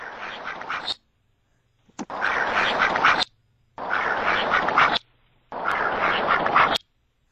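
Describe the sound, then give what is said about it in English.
A duck quacks in four loud, raspy bursts, each about a second long, with short silent pauses between them and no other voices. “Let me play the other duck file I have.”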